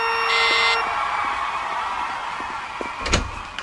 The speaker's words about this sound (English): Oh, you know you don't have to ring the bell.